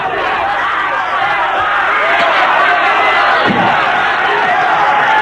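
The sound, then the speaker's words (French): A crowd bursts into a room with a dense, loud roar of many overlapping shouting voices, steady throughout, with a dull thump partway through. “La foule envahit la pièce.”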